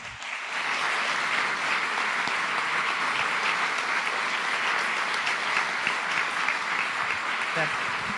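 A crowd claps loudly and steadily, a dense wash of applause that starts abruptly and holds at an even level for about eight seconds without fading.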